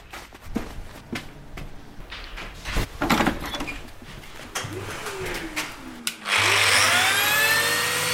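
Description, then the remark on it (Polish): Scattered knocks and taps of work in a carpentry workshop where furniture is being made, a motor whining down in pitch, then a loud power tool starts up and runs steadily with a harsh, high buzz. “W warsztacie stolarskim, tutaj z przyjaciółmi i braćmi robimy meble na wynik.”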